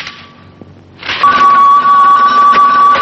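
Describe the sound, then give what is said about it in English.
A telephone rings loudly, its steady electronic tone holding continuously over a buzzy wash of sound after a quieter first second. No one speaks. “it's ringing, honey.”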